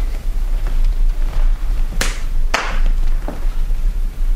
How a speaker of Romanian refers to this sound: Va să zic că tu aștepți afară și când eu bat din palme, intri.